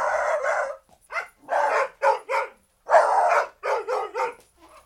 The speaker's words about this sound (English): This is a recording of when the dogs were in the studio to get a recording of dogs barking for ….